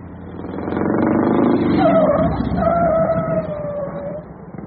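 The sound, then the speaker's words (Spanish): An old car, giving off heavy smoke, rumbles low and rough as it slows and pulls over to the roadside, with a thin, wavering high-pitched squeal cutting in midway before fading out. “Amigo, amigo, haga favor de orillarse.”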